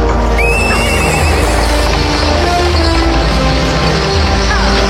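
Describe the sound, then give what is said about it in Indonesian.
A luxurious horse-drawn carriage rolls along a road toward the Katumenggungan Jayang Lagan in the royal city of Mataram, at steady volume, with hooves clip-clopping and a horse whinnying near the start, amid a dense, continuous rumble of wheels and background noise. “Sebuah kereta kuda yang mewah meluncur di atas jalanan menuju dalam Katumenggungan Jayang Lagan.”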